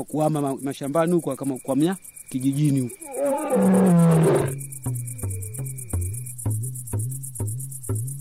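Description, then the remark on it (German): A lion roars, a deep rumbling bellow swelling to a loud, rough peak, then trailing off into a rhythmic series of shorter, lower grunts. “Zwar schickte die Regierung mehrfach Wildhüter, die den Löwen jagen sollten, aber der entwischte ihnen immer wieder.”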